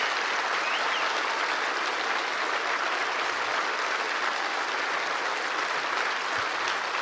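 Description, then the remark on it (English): Steady, sustained applause from a crowd applauding the president, a dense wash of clapping hands that holds at an even loudness for the whole seven seconds with no voices breaking through. “I want you to once again applaud this president for being proud of who we are.”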